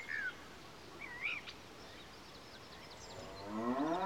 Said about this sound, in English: No, it isn't. Is it a cow? Yes, it is.